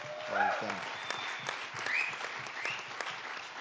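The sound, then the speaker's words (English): A crowd claps in a steady wash of applause for Congressman John Lewis, dense and sustained throughout, with a few brief voices or cheers rising above the clapping near the start. “So maybe we can all give him another round of applause.”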